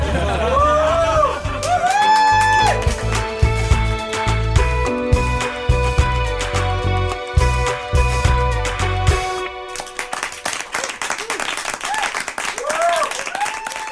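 A band plays a sustained, tonal passage that breaks off near the end, giving way to a steady burst of audience applause and scattered cheers for the last few seconds.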